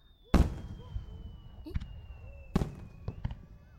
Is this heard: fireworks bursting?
yes